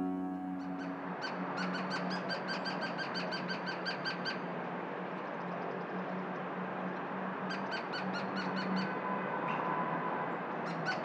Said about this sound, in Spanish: Carpintero de Gila, de nombre científico Melanerpes uropigialis, del orden Piscidae y de la familia Piscidae. Esta especie presenta una longitud de 21 a 24 centímetros de largo.